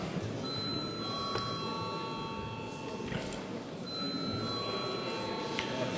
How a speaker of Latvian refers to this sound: lūdzu zvanu.